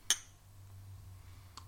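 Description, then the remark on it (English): A bright, ringing clink of beer glasses touching in a toast with Hoyne Pilsner, a 5.3% traditional-style pilsner, sharp, followed by a low hum and a fainter second tap near the end. No one speaks. “Let's take a sip. Let's try it out.”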